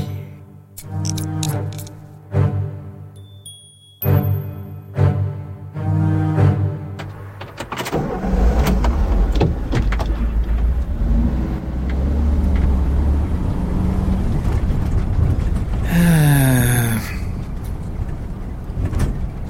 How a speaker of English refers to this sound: My car just turned in.